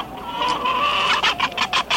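A chicken clucks, starting with a drawn-out, raspy call and breaking into a quick run of short, sharp clucks. There is no talking and the background is quiet.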